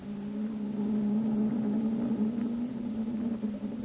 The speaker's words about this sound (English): Those engines sound good. Yes.